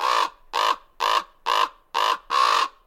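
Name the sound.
raven calling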